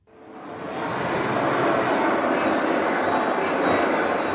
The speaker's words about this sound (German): Im San Mames, dem Stadion von Athletic Bilbao, gehört das Vereinsmuseum zu den Attraktionen. Auf einer Videowand scheppert eine Dampflok durchs Bild, Hochöfen, Schiffssirenen, hart arbeitende Männer.